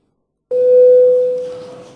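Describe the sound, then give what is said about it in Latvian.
A single sustained electronic bell tone sounds after brief silence in a parliament session, signaling a vote on a bill amending the criminal law, steady and clear for about a second and a half before slowly fading, with no voices over it. “Paldies, lūdzu zvanu.”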